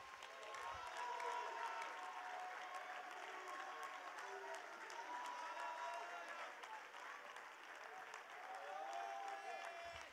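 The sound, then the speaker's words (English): An audience claps with all its might and shouts in praise, a dense, steady roar of many hands and raised voices that stays loud and sustained for the whole stretch, with occasional higher cries rising through. “One more time, would you put your Bibles down, and all over this place, would you loose your faith in your praise for just a moment, and somebody clap your hands with all of your might and shout.”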